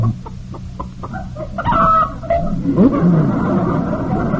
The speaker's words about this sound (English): Hey, that hen just laid an egg.